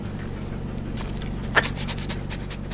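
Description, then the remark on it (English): A dog pants in quick, steady breaths over a continuous low mechanical hum, with one brief sharper click partway through, inside a customized white mobile dog-grooming van where dogs wait on the floor to be washed or clipped. “The van is bulbous and white, and dogs waiting to be washed or clipped lie patiently on the floor inside.”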